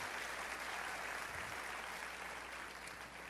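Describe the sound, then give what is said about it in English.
A crowd applauds steadily, a dense wash of many hands clapping at once that holds an even level before easing slightly at the end. No one speaks. “The deal I've got to strike with teachers, though, I may not get as much of applause on this, is I would like to work with teachers and the teachers' unions, because I'm a union guy”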